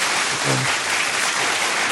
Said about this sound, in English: Oh, let me get the applause. Here we go. There, you're applauding.